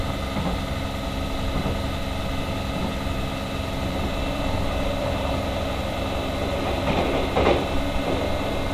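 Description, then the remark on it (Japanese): The Hokutosei sleeper train bound for Aomori rolls steadily along the rails at night, with a deep continuous rumble and droning hum, a brief rattling swell near the end, and no voices. “それでは北斗星号での夜ごゆっくりお過ごしください。”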